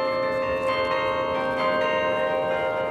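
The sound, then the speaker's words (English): The bells of a military memorial tower on the NC State campus in Raleigh chime the songs of the armed forces, their rich sustained tones ringing and overlapping continuously at a steady, moderate loudness, with no voices present. “They know now, as the bells chime with the songs of the armed forces.”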